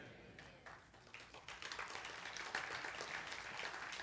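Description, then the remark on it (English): An audience claps in a steady, dense patter that starts modestly and swells louder after a second or so, continuing without a break for several seconds. “Don't clap, just throw money.”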